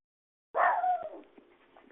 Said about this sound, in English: Everybody's dogs are going crazy. Can you hear my dog? Oh, are you hearing other dogs too? Yeah, my dog was just barking right by the window to my office.